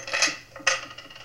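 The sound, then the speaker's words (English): Keys and coins clink down onto a table as someone empties their pockets, two bright metallic jangles about half a second apart, fairly quiet, with no one speaking. “All right, take everything out of your pockets. Put it right down here.”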